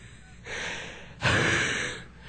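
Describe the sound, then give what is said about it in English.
A voice imitates heavy, panting breaths: a drawn-in gasp followed by a louder, forceful exhale, breathy with no words spoken. “Sorry, I get out of breath when I have to move so quickly.”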